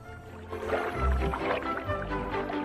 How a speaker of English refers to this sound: Keeping its small head above the water, it paddles towards some mangroves.